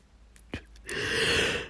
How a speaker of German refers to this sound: Mein Hirn entspannt sich schon wieder. Gähnen ist ja auch was Positives. Muss ja nichts Negatives sein.